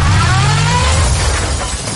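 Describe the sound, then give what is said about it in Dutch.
A car engine hums low for a moment, then a loud, noisy crash of metal and breaking debris fills the rest as the car, accidentally left in reverse, backs into something; no one talking. “Oh, ja, hij stond nog eens achteruit. Dat is niet zo slim.”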